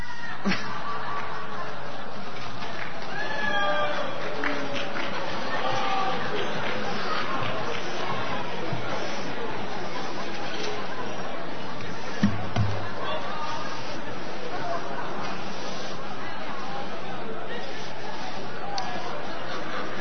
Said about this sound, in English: I think the crowd's growing restless and starting to show signs of a slight bit of edginess, you know.